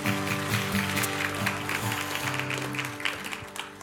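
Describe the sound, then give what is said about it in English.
A church audience claps for the worship team in a steady, dense, continuous patter over sustained keyboard chords, with the clapping loud at first and gradually thinning toward the end. “Give them a round of applause. They've played so well.”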